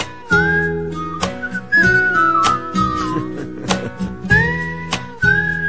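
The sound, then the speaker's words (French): A pair of whistlers carry a bright, sliding melody in short phrases over steady instrumental backing with regular percussive hits, fairly loud throughout. “Écoutez, il y a deux siffleux.”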